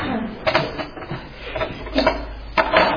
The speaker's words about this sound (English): So what am I going to do? I'll just print another piece of paper.